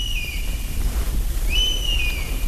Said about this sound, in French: Un brouillard qui danse au premier rayon du soleil se retire doucement de la forêt de Białowieża. Les pivers, les hiboux pygmées et les mésanges annoncent la venue du jour.